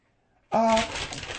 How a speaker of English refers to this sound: You're nervous with that paper. Do you need to wipe?